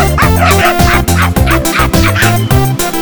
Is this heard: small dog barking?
yes